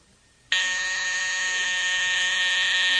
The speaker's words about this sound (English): Okay. Joy buzzer. Joy buzzer.